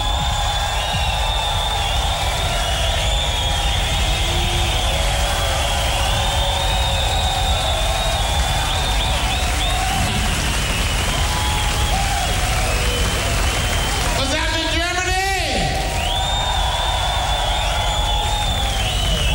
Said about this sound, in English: Give a big round of applause for my man, Mr. Frank Wesley.